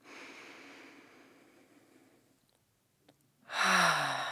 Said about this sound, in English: Again, breathing in through the nose. Breathing out, slow and long. And one more time, breathing in.